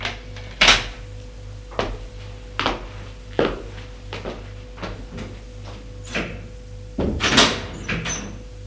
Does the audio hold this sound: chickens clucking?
no